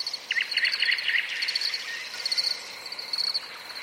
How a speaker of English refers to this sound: There is one recording of field crickets and nightingales, thrush nightingales.